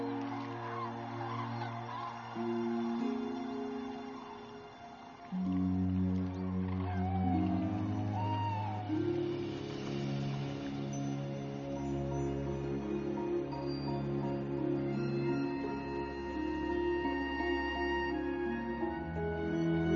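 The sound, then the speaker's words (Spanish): A large flock of cranes calls together in the evening as the birds gather in the shallow water of a pond to sleep, at Lake Riddiransee in Mecklenburg-Western Pomerania; overlapping bugling and trumpeting notes form a steady, dense chorus that carries on without pause, fairly loud and without any talking. “En las tardes, las aves se reúnen en el agua poco profunda del estanque para dormir.”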